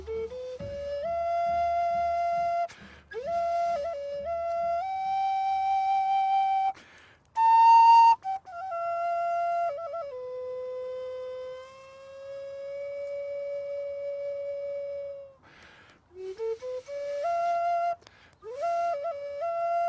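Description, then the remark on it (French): A traditional whistle blown in long, sustained, piercing tones that slide up and down in pitch, broken by short breathy bursts between phrases, with no talking. “Voilà, il y a les flûtes, il y a les sifflets, uh-huh.”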